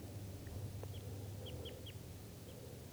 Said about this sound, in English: And we'll call this guy that's still calling in the trees here bird number 3. So the 2 birds are in the net, 1 still here up in the trees.